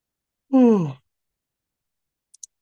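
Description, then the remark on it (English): One audible yawn: a drawn-out voiced exhale that slides downward in pitch, then silence broken only by two tiny faint clicks. “And I'll do my first yawn.”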